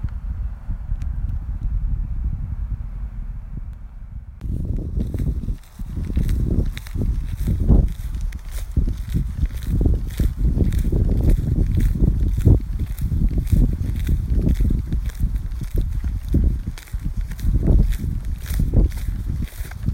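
Steady footsteps crunch and swish through grass and rough ground, evenly paced, as a person walks across countryside fields, after a few seconds of low wind rumble. No one speaks.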